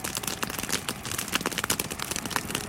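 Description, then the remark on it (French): A fire in the Amazon burns steadily beside a road at 6:30 in the evening after nightfall, with a dense, continuous crackling of many sharp pops and snaps over a hissing roar, fairly loud, with no voices. “C'est juste le bruit de l'Amazonie qui brûle.”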